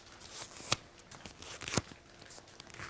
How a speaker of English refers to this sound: Tear off the right-hand corner of your sheet of paper.